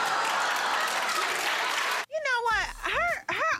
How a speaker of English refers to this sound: Is there a sign in the audience that says applause that gives you the cue? I don't think so, because when they clap, they look like they mean it.